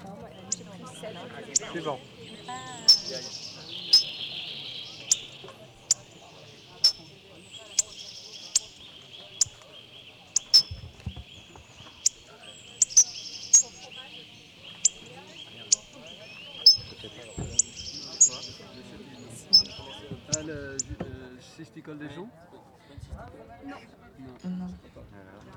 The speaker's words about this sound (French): C'est un gros bec casse-noyau. Il a un nom rigolo, celui-là. Ouais. C'est marrant parce que le gros bec, c'est un peu une des curiosités des baronnies cette année. C'est un oiseau qui est relativement fréquent en migration et en hiver dans la région.